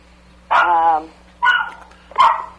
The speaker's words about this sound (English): oh, that's my little psycho dog.